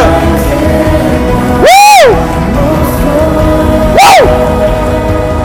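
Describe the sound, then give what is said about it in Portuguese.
A church audience applauds and cheers for the Lord in a steady, dense wash of crowd noise, broken by two loud, rising-and-falling whoops from one person. “E se você crê nisso e recebe essa palavra, aplauda o Senhor, aplauda o Senhor.”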